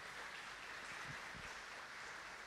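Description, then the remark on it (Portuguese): A church audience claps for Jesus for the visitors on the first Sunday of 2025, a dense, even wash of applause with no voices, holding at a constant level for the whole stretch. “Vamos aplaudir Jesus mais uma vez pela vida dos nossos visitantes?”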